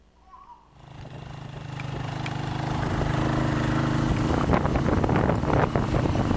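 Rushing wind buffets the microphone and builds steadily over a low engine drone, the roar of wind noise from riding a motorcycle growing louder and more turbulent toward the end, with no talking.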